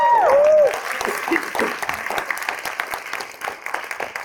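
A crowd claps steadily and energetically for several seconds, opening with a loud, sliding whoop of a cheer before the dense applause carries on alone and gradually thins.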